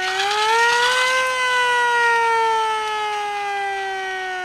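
A loud World War II air raid siren, set off as a noisemaker, wails steadily on its own, its tone rising briefly at the start and then slowly sliding lower as it begins to wind down.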